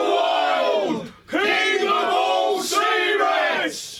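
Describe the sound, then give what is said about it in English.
A large crowd roars a battle cry in unison, loud, with voices rising in three sustained surges separated by brief breaths. “There was not one in all the crowd who dared not shout out aloud.”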